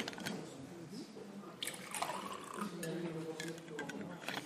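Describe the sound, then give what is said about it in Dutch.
Someone drinks water: liquid sloshes and splashes in irregular bursts, with small clinks and wet sipping sounds over several seconds. “ik moet drinken, ik heb het dorst. Het is hier een beetje water.”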